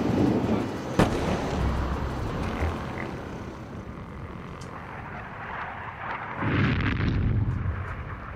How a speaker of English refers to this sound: Night of 13th. To 14th of July, 2006, 4 a.m. The Israeli Air Force flies over Beirut. Far away, we hear bombs falling down.